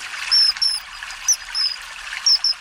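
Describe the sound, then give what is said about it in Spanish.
A kingfisher gives short, shrill, high-pitched whistles, repeated in quick pairs and bursts, over a steady rush of flowing water. No one speaks. “¿Cómo suena el Martín Pescador?”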